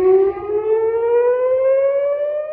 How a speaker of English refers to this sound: Then the sirens went off in the south, then the West Bank, and then, to many people's surprise, sirens went off here in Jerusalem.